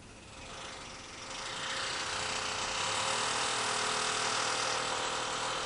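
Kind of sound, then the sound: tool, drilling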